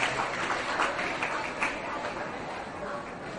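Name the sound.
children applauding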